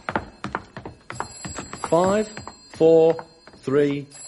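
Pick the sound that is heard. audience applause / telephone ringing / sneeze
telephone ringing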